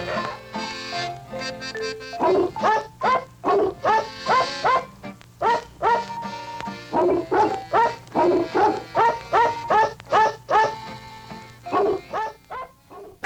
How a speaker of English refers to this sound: I have got an appearance for you by the famous singing dogs. Come on in here, dogly friends. Line right up over there. Go ahead now. I want to hear if you can sing something.